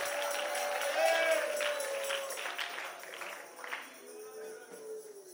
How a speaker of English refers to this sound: Oh, I don't think all of that clapping and shouting is important. It's important.